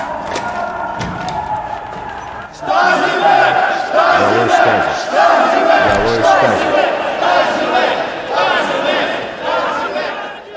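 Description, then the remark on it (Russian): An angry crowd of protesters shouts and roars in a film scene, a dense wall of many overlapping voices that surges in loudly after a quieter start with scattered murmuring and stays intense throughout. “Ну и далее Михаил выходит к этой беснующейся толпе, и это прямая аллюзия на рассказ про то, как президент Путин общался с желающими чего-то там разгромить в городе Дрездене.”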